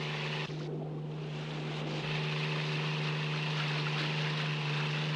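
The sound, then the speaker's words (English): A motorboat engine roars steadily wide open at full throttle, heading due south of Rocky Shoals, a loud constant drone with a strong low hum, mixed with wind buffeting and rushing water. “Can we go a little faster? Wide open now.”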